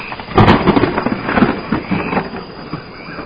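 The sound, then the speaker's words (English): A loud thunder sound effect: a sharp crackling burst up front, then a rolling, rumbling boom that slowly fades over a few seconds, with no voices. “Got to get a little thunder going.”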